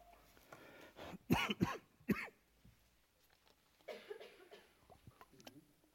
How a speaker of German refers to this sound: Ich kämpfe noch an meiner Erkältung. Ich entschuldige mich fürs Husten.